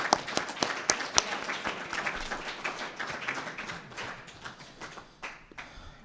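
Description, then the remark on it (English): An audience claps, many hands slapping together in a dense, steady patter that stays fairly even for several seconds before thinning slightly toward the end. “And I think that needs a clap.”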